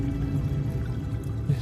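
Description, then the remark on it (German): A steady, unbroken rush of water, low and full-bodied, holding an even level throughout with a faint gurgle now and then and no voices. “Ich versuche mich gerade zu erinnern, ob ich vorhin Wasserrauschen gehört habe.”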